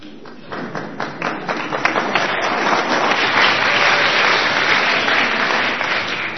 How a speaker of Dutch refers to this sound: Leuk, een keer applaus vooraf al.